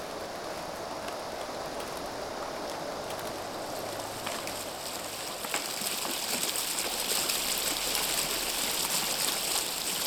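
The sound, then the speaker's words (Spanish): Flowing water of a polluted river in Pinotepa rushes and gurgles steadily, a dense, continuous wash of sound that swells a little louder partway through. No voices are heard. “Y cuando vienen las lluvias, los arroyos que desembocan en mi cauce vienen cargados de bolsas de basura, de plásticos, tanto así que a veces parezco botadero de basura, y no el gran río que alguna vez fui.”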